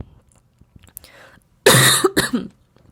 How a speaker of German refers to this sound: Ja, und an diesen Husterern und an diesen Versprechern und an meinen Räusperern merkst du, dass ich voll im Fluss bin und dass ich meine Podcast-Folgen immer live aufnehme, wie es mir gerade kommt.